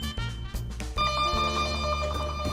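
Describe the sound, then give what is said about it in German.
A doorbell at a home rings with bright, sustained electronic chime tones that shift pitch once near the start, then hold steady and loud for a couple of seconds, with no voices. “Da klingelt's schon.”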